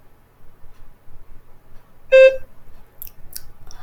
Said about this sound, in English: Begin to prepare your response after the beep. Begin speaking after the beep.